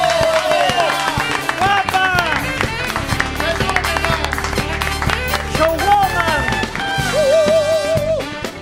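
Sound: loud applause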